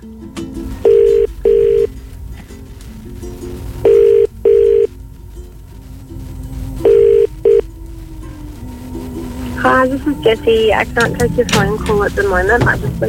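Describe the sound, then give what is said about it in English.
A phone line rings out in three double-burst ringback tones, steady and mid-pitched with pauses between, over a low hum, on a call to a wedding giveaway finalist; then a voicemail greeting starts talking. “Let's try them again.”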